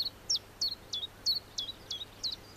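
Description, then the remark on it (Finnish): A common chiffchaff, a small grey-green warbler about 10 cm long and under 10 grams, sings a steady, evenly spaced run of about eight high, sharp notes, alternating slightly in pitch, over a faint low background hum with no talking. “Tiltaltin tiputteleva ääni, tilttalttalt, tilttalt, jää helposti mieleen.”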